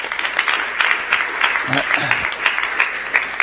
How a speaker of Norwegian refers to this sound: Du som ser på oss på livestream, skal vi gi en applaus til de som følger med oss utenfra.